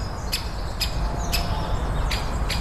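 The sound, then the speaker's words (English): Sharp, high 'kik' calls from great spotted woodpeckers in a forest, contesting territory, ring out five times at uneven intervals over a steady low outdoor rumble with no talking. “And this is another one, so this is an area full of great spotted woodpeckers.”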